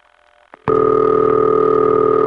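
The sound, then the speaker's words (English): After a brief hush and a small click, an old Bell System high city ringback tone starts and holds as one loud, steady, buzzy telephone tone to the end. “That's High City Ring.”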